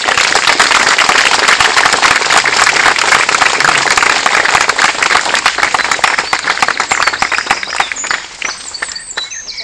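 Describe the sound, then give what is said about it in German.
A church audience bursts into loud, sustained applause to welcome a newly baptized child, dense clapping that holds before thinning out toward the end. “Du bist jetzt mitten in unserer Gemeinde und deswegen heißen wir dich mit großem Applaus willkommen.”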